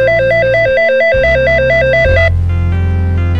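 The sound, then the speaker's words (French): A telephone rings loudly with a fast warbling two-tone trill, cycling steadily over a synth-like backing for a couple of seconds, then cutting off as the music continues. “Bon, allez, tant pis, j'ose, passez-moi le téléphone.”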